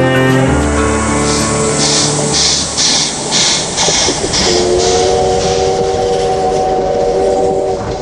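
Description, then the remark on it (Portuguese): A nearly 90-year-old steam locomotive in Japan sounds its whistle in long, loud, steady blasts over a constant roar of hissing steam and rhythmic chuffing, with no voices. “Ah, esse apito!”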